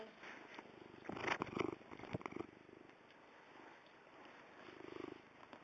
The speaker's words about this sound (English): Let's pet WYSIWYG so we can hear her purring, okay?